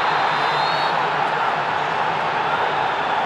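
A stadium crowd of 50,000 spectators roars at a goal (1-0) in a dense, steady wash of cheering that stays loud from start to finish, with no clear voice standing out.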